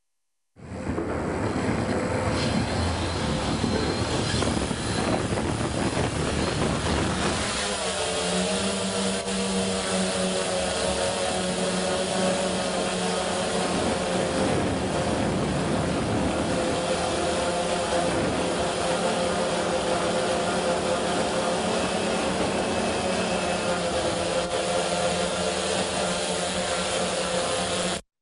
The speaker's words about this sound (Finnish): Mä otan nyt tuon dronin äänen pois tuosta taustalta.